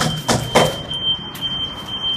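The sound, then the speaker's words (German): A distant smoke detector alarm, not coming from the nearby house, heard beside a wooden carport, sounds as a thin, steady high-pitched electronic tone, faint but constant throughout, with a couple of soft knocks or bumps near the start. “Das klingt eigentlich nach einem Rauchmelder.”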